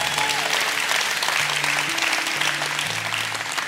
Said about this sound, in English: You can clap for that, that's pretty cool.